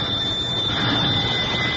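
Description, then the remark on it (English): Miss Mamie's old-fashioned doorbell, rung on a late spring day, sounds without a break for about two seconds. It gives a steady high metallic tone over a rattling, buzzing clatter, fairly loud and with no voices. “It began when David, my husband, he's an artist, rang Miss Mamie's old-fashioned doorbell.”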